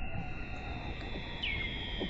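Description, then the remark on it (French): A Weddell seal call under sea ice in Antarctica: a thin, descending whistle glides down over steady underwater hiss and hum, with faint chirps in the background and no voices. “Phoque de Weddell, sous la banquise en Antarctique.”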